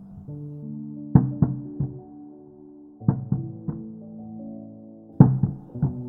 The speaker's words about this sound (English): The knocking again. Longer. More pronounced. Like a big dog running across the hallway above.